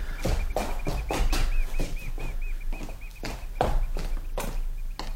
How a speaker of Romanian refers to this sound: Ce e? O pasăre cântă.